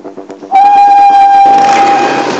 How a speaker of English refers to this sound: when you hear the whistle blow, you go!